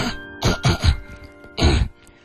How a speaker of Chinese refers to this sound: 这是一个心理招数，因为就是有心理老师跟我说，其实他不需要清嗓子，他每天就是有一种强迫性，他要听到这几声，他自己听到这几声，他自己嗓子就会清澈。